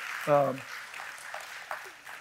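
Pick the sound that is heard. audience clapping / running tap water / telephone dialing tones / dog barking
audience clapping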